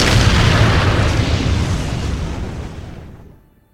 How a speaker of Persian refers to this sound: هواپیما ها بوم میندازن اونجا.